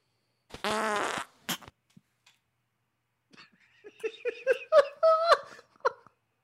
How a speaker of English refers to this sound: Okay, so this we're going to try not to laugh. At these real fart sounds.